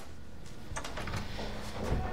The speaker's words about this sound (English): She takes a white towel from a hook and opens the bathroom door.